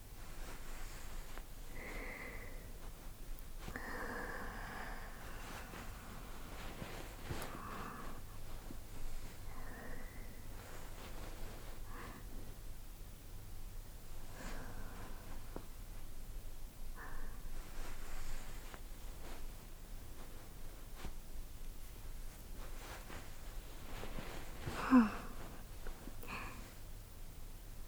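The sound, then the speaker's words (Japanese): A woman breathes softly right at the microphone while lying under a futon, slow inhales and exhales repeating every few seconds, with faint fabric rustling beneath and no talking. “耳澄ませて、私の息遣い聞こえる？”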